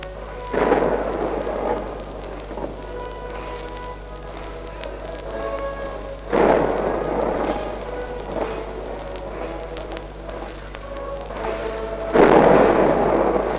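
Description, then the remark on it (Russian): Three booming farewell gun salute volleys at a funeral at the Kremlin wall, as an urn is placed in a niche in the wall, evenly spaced about six seconds apart, each a loud rumbling blast that slowly fades into a steady low background hum. “Гремит прощальный салют.”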